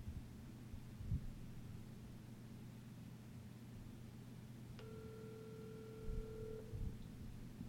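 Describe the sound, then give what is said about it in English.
A single ringback tone of about two seconds, a steady electronic purr on a phone line as someone places a phone call, sounds once over a low, constant hum and faint static; nobody speaks. “I feel like I should call Chip Chantry.”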